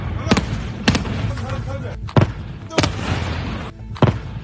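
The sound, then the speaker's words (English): Five sharp explosions from an air attack near the Iranian city of Isfahan, Iran, early in the morning, burst out at irregular intervals, each a sudden loud crack with a brief rumble, over a steady rough background noise with indistinct voices. “Explosions and an air attack that is now pushing fears that the Middle East is on the brink of war.”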